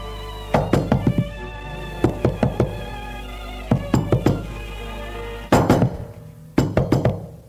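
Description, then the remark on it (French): Firm knocking on a door in several bursts of quick raps, each burst three to five knocks, fairly loud with short pauses between, over a steady low hum. “L'on l'a frappé à la porte.”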